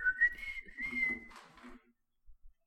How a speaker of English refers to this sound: What was that? That was a whistle. Oh. I'm an avid whistler. I thought your cell phone went off. Oh, no. I can't see your mouth because of the pop filter. Oh, yeah. No, I was whistling.